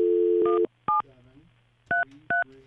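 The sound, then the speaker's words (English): A steady telephone dial tone cuts off, followed by three short touch-tone beeps as keys are pressed to dial a University of Illinois phone line. The beeps are spaced unevenly and clear against a faint low hum. “Okay, so we're going to dial the University of Illinois right now.”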